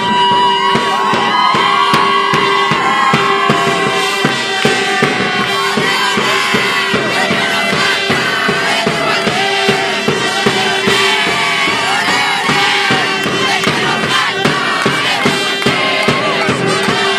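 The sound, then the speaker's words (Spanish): The official supporters' group of the Juan Fernández team chants and shouts loudly and continuously at a sporting match, voices massed together with a steady pulsing rhythm, dense throughout with occasional whoops rising above the crowd. “Escuchamos, miren, le voy a dejar solo el audio ambiente para que escuchen a la barra oficial de Juan Fernández.”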